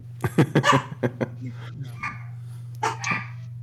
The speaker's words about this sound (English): Oh, someone let the dogs out.